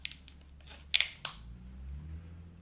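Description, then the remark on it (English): A few sharp clicks and crackles as someone pauses to drink some water, like a water bottle being handled and opened for a drink, with two louder snaps near the middle over a low steady hum, no one talking. “I'm going to drink some water here if that's okay.”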